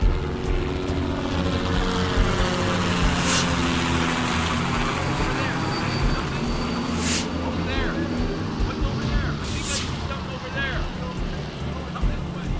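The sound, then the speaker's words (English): A steady, throbbing drone of helicopters and P-3 Orion propeller planes searching for survivors in an area southwest of the harbor, passing overhead, loud and continuous throughout, with engine pitches slowly sweeping up and down as the craft move past. “Choppers, P-3 Orion prop planes, and a bevy of fishing boats are searching for survivors in an area southwest of the harbor.”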